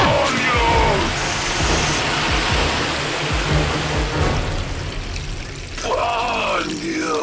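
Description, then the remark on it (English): A loud, steady high-pressure water blast roars and hisses for several seconds without letting up, with brief snatches of voices breaking through near the start and again toward the end. “A high-pressure blast would do just that.”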